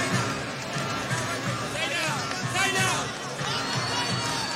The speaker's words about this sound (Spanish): ¡Ruido! ¡Fuerte ese aplauso!